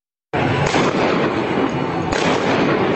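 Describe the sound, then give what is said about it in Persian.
Loud, harsh gunfire in a news video released by state media erupts and keeps going as a dense, distorted barrage of rapid overlapping shots for several seconds, with a couple of sharper bursts standing out and no voices heard. “رسانه‌های حکومتی این ویدیو را منتشر و ادعا کردند که 2 موتورسوار داعشی تیراندازی کردند که به کشته شدن 9 نفر انجامیده.”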